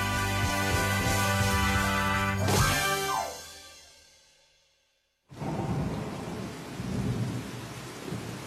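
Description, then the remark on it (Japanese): Music fades into a moment of silence, then a sudden heavy downpour bursts in abruptly over a ground softball practice at a sports ground, a dense, loud rush of rain that roars steadily to the end with no voices. “突然の豪雨で俺が初めて参加したグランドソフトボールの練習が中止になった。”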